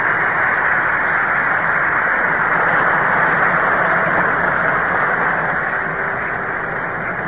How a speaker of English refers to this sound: The applause that you hear here at Yankee Stadium greets pitcher Don Newcomb as he walks up to be the first batter for Brooklyn in the 8th inning.